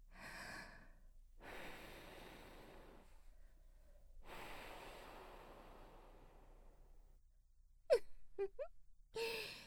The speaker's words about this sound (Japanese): まずは吐息でじらしていかないとね。